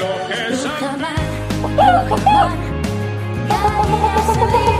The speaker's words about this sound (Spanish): Las gallinas de Rujamar. También las mejores gallinas de España.